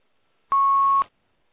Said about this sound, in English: Someone is beeping loudly.